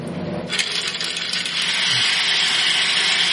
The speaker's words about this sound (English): I do apologize for the noise, gentlemen. It gets quite loud. Is there any way you could design this to be a little quieter? Maybe, but this is just a prototype. These tabulating drums rotate at 1800 RPM.